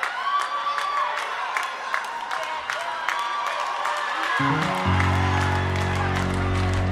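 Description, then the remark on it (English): An audience claps steadily amid crowd cheering and scattered whoops, a dense patter of hand claps throughout; partway through, deep sustained musical tones begin underneath the applause. “Let's clap.”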